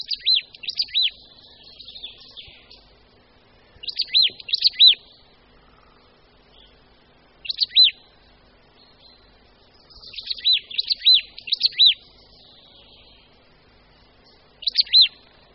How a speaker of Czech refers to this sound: Svým zpěvem se nám představila jedna z našich síkorek, síkora babka. Je to ptáček menší nežli vrabec. Samec i samička jsou shodně šedohnědě zbarveni, s třpitivě černým temenem, bílými lícemi a malou černou kapkou pod zobáčkem.